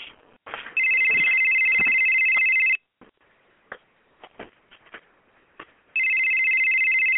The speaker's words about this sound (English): Someone please answer the phone. Oh, my gosh. It's just ringing off the hook.